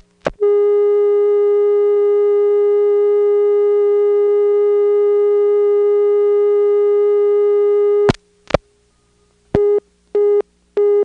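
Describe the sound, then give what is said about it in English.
A steady, buzzy PBX telephone dial tone drones loudly for about eight seconds, then times out, cutting off with a couple of sharp clicks, followed by a few short repeating beeps. “Here's the PBX dial tone timing out.”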